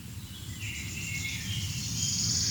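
A bird sings a high, thin, trilling song that runs steadily through the whole moment, repeating the first part of its song about 15 times, more often than the second part, rising slightly in pitch toward the end, over a low background rumble with no voices.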